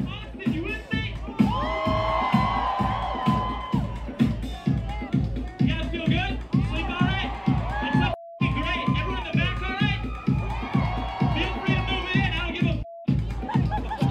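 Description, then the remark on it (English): A concert crowd cheers and shouts over a loud, pounding dance beat of mashups played by a laptop sampling artist, the voices forming a dense, continuous roar around the music from start to finish. “Completely had this crowd wired.”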